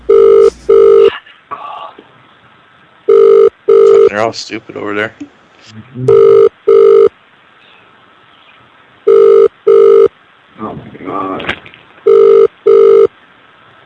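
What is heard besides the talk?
telephone ringing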